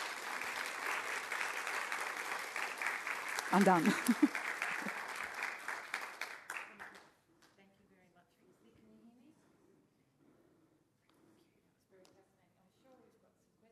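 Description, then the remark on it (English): An audience bursts into sustained, dense applause for a group of women being honoured, lasting about seven seconds, with a few cheers rising briefly midway, then the clapping cuts off and quiet conversation follows. “it's great to be considered a landmark woman, but I tell you, I am a pebble compared to these women, and I think we should give them all a big round of applause, frankly.”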